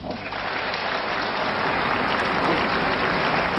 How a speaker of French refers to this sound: Robert Badinter quitte la tribune sous les applaudissements du public et des députés de gauche qui tous se sont levés. Et sous les applaudissements également de quelques députés de droite qui voteront l'abolition de la peine de mort